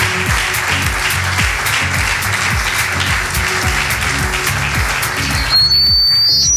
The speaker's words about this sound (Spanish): Ana Delgado es diputada provincial de Turismo, presidenta de la Agencia Destino Huelva y pido un aplauso gigante para ella, por favor.